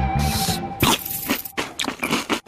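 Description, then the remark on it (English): Loud crunching of crisp Cinnamon Toast Crunch cereal squares, coated in cinnamon and sugar, being chewed, several sharp bites in an uneven rhythm, with a faint steady tone humming underneath and no talking. “It's all that cinnamon and sugar makes those crunchy little squares so irresistible.”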